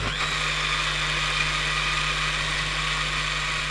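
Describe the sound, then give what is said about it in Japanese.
A blender runs at a steady, loud whir for the whole stretch, a constant high motor whine over a low droning hum, with no talking, blending sherbet-like frozen melon coconut with ice cream. “シャーベット状に固まったメロンココナッツとアイスクリームをミキサーにかけてください。”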